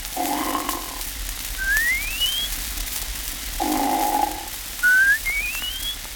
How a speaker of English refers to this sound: And type 2C, a further development of this variety, I have called the 4th of July or whistling bum type.